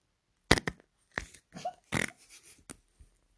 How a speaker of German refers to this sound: Ja, Leute, ich furze.